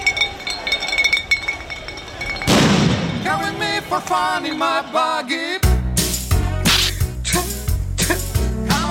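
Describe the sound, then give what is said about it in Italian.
Glass bottles clink and shatter amid a noisy crowd of far-right groups and football fans at an anti-government demonstration at the Circo Massimo, thrown at reporters and cameramen, followed by loud booming blasts of paper bombs that thud repeatedly, with shouting voices throughout the chaotic scene. “Da qui l'assalto ai cronisti e cameraman con lanci di bottiglie di vetro e bombe carta.”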